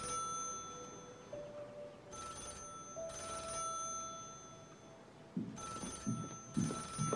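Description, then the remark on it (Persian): A telephone rings in repeated bursts, each a bright metallic trill, at a steady rhythm against a faint room hum, with some low shuffling noises near the end. “بتی باید باشه تا به تلفن رو جواب بده.”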